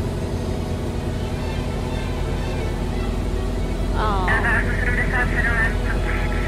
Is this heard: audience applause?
no